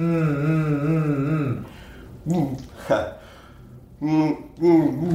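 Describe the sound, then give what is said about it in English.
A wavering hum blown through a straw into water in a bottle, with bubbling gurgles riding on the steady pitched tone as air is sent through the straw, then several shorter hummed bursts with gaps of quiet between them. “As you're going to put the straw in the bottle, you're going to hum into the straw, which means air is going to be coming through the straw and it's going to blow bubbles right into the water.”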